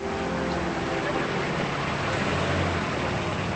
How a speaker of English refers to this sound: With limousines on either side of the drive, Chris pulls up to the hotel in her SUV.